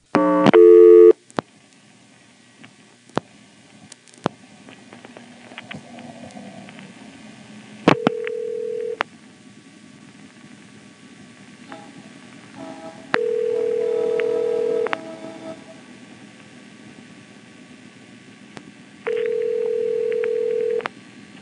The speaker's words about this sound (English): Here's 112, which goes to an unanswered ring, perhaps a test board, followed by two calls to 113, and finally a brief call to 114, which I hang up on.